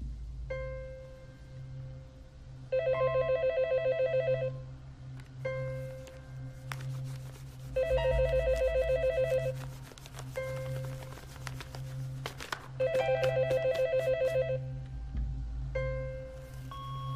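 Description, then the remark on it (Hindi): A telephone bell in a home rings in three rapid trilling bursts of about two seconds each, separated by pauses, loud over a low steady hum with scattered faint clicks and beeps. “Hello hello, phone उठा ले, जानता हूँ कि आप घर में हैं। फोन उठा ले।”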